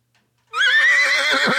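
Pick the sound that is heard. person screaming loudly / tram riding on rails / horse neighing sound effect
horse neighing sound effect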